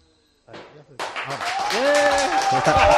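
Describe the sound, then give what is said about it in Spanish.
A burst of applause and cheering from listeners in a bar in Becerril de Campos, applauding the match broadcast by COPE, breaks out after a brief lull, with dense clapping under excited shouting voices that grows louder and rowdier toward the end. “Si estáis escuchando, vecinos de Becerril de Campos, aplaudid al partidazo, claro, de COPE.”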